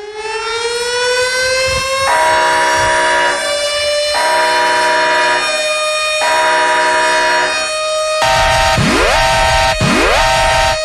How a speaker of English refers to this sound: I have nothing to say but to sound the alarm.